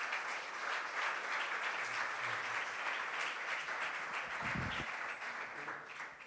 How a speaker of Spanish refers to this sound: Así que bienvenidos a todos, bienvenidas. Les damos un aplauso para recibirlos.